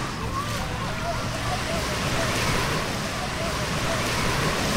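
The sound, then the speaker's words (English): Steady, full roar of Atlantic Ocean surf at the shoreline, with a continuous wash of breaking waves and some wind buffeting, loud and unbroken throughout with no distinct individual wave crashes. “And we're now, like, standing at the Atlantic Ocean.”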